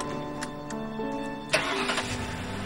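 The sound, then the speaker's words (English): A man's car engine cranks with a few short whirring bursts, then catches at once and settles into a steady running rumble as he pulls away. “gets into his car”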